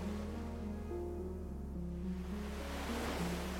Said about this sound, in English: There is no harshness here, no urgency, only the quiet movement of the ocean and the wide open sky above you.